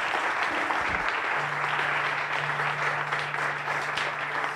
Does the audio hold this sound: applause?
yes